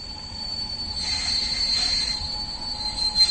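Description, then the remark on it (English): A steady, piercing metallic squeal of train wheels on rails rides over a continuous low rumble of a moving train crossing the Ostrava conglomeration, holding for a few seconds without pause. No voices are heard. “A series of trains, both small and big, take us across the Ostrava conglomeration.”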